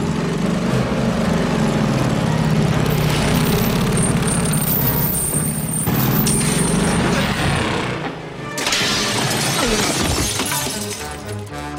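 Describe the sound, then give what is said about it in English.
A motorcycle engine roars loudly and steadily in a film stunt scene at the Funhouse, an old ninja chain versus motorcycle trick, mixed with clattering crash and shattering noises, briefly dropping away before the engine noise surges back. “Old Ninja Chain versus Motorcycle Trick.”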